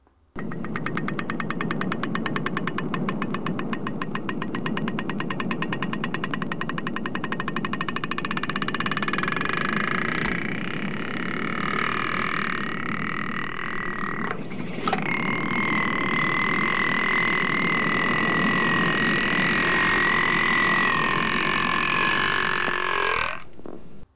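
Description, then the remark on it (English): Underwater humpback whale sounds, recorded by scientists from the Hawaii Institute of Marine Biology: a rapid, buzzing train of creaky pulses gives way to a steady, droning groan with a thin, high whine running over it, continuous and fairly loud throughout. “This is an audio recording made from a humpback whale, and upon first listen, it sounds an awful lot like the bottlenose dolphin echolocation recording.”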